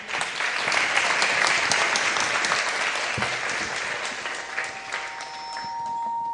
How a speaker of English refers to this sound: And thank you very much. Hare Krishna. Big hand of applause.